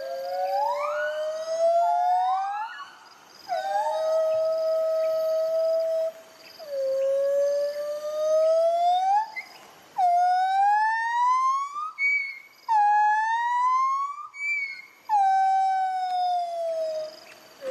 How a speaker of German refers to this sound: Genau, und wir haben so ein kleines Duett für euch dabei, das wollen wir euch nicht vorenthalten. So klingen singende Gibbons.